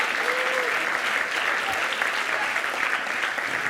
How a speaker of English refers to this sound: Let's give one more round of applause for people. Thank you.